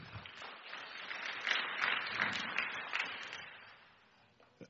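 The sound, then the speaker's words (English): A crowd applauds with dense, steady clapping that holds strong for about three seconds, then thins out and fades, leaving a few last scattered claps at the end. No one speaks. “I love it when people clap.”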